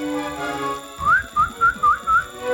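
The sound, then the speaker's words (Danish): A person whistles a short birdlike call, imitating a bird that sat whistling like that: five quick, rising chirps in an even rhythm, clear over a faint tonal background, with no talking. “Så nu den anden dag, der sad faktisk en fugl og fløjtede sådan.”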